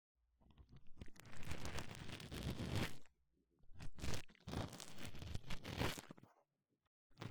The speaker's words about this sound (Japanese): ほとんどの耳垢を除去できましたので、綿棒を使って細かな耳垢を絡め取り、同時に耳壁のマッサージをしていきます。こちらの細めの綿棒をお耳穴に差し込みます。